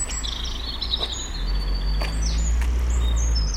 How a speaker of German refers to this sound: Ich komme raus, es ist irgendwas zwischen 4 und 5 Uhr in der Früh. Die Sonne geht auf. Die Vögel brüllen.